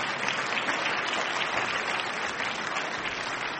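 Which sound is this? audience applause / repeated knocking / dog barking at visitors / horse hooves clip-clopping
audience applause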